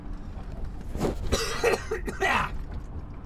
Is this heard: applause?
no